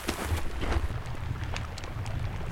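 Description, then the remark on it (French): Scattered sharp crackles and pops of small pieces of ice, fallen from the glacier front, melting as they drift, like oil sizzling, over a steady rushing wash of a tiny waterfall and a low rumble, with no voices. “Puis on entend des crépitements comme ça, vraiment des crépitements, comme de l'huile sur le feu, quoi.”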